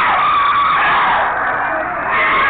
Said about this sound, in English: They are screaming because they have to go, and they don't want to go. They don't want to lose their victims.